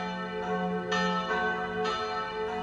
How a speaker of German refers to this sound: Ich war von der Stadt Würzburg fasziniert. Meine Eltern machten dort immer Station, besuchten Freunde und morgens wurden wir durch ein enormes Glockengeläut von St. Kilian geweckt.